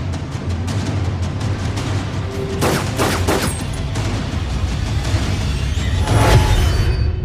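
Movie-style gunfire from a film playing on a television with the volume turned up, actors shooting at each other, over a dense, rumbling soundtrack: a quick cluster of three sharp shots, scattered crackling fire throughout, and another heavy blast near the end. No one speaks.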